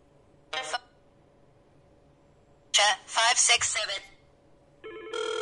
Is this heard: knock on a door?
no